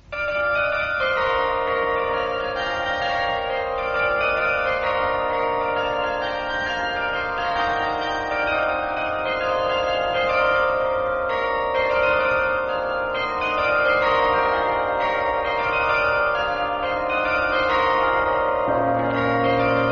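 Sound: bells ringing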